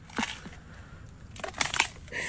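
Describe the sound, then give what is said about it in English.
An animal crunches through a smartphone, eating it: a sharp snap first, then a cluster of loud, brittle cracks and crackles in quick succession, followed by a faint lingering rasp. “Oh! Listen to that crunch.”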